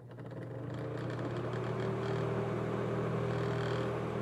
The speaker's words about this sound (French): Bref, là j'ai décidé de ressortir Bobby le ventilo.